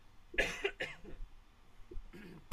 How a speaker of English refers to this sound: I'm going to cough one more time. Hang on.